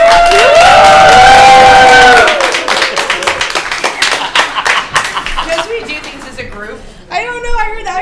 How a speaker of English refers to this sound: Are you clapping this over? Why are we clapping? Why do we do anything, buddy? Because we're sheeple. Because everyone else is doing it. You're such sheep.